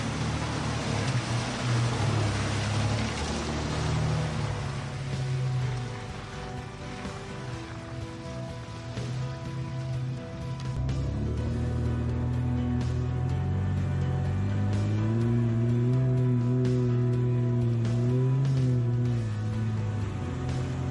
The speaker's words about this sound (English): I helped him dip his toe into it, literally, by showing him how easy it was to simply drive right through the water.